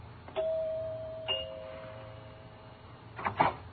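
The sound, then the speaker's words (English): A doorbell at the front door of the Tremont Mansion, rung by pushing the button, chimes in two notes, a ding followed by a dong, each tone ringing out and slowly fading over a low steady hum, before a brief rustling clatter at the end. “He stepped up to the flagstone entrance, walked to the door, and pushed the button.”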